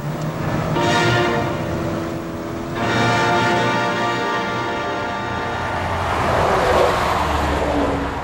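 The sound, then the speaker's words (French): A car engine roars as the vehicle accelerates hard, revving up and dropping pitch through a couple of gear changes, with steady road and wind noise and no voices. “Et en avant pour la vitesse pure, la bête !”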